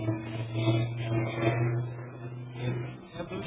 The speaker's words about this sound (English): Heavy motor buses. Buses are also so old. All are creating sound so much.